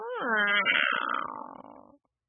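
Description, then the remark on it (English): A person voices a drawn-out growl like a tiger's, rising then slowly sinking and fading over about two seconds; moderately loud, with no other sounds around it. “And all of a sudden, he heard a low growl.”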